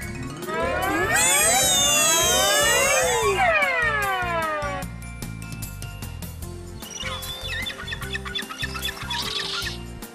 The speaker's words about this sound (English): Did you hear that sound? Let's listen to it again. So, Bonnie, do you know what it is? I know, a seagull. A seagull. That's right, Bonnie.